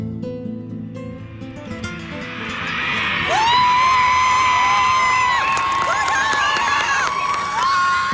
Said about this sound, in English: Now that's something no one's heard since the Iranian Revolution, the sounds of women cheering at a soccer match. Recently, the Iranian women's national football team played its first soccer game in decades.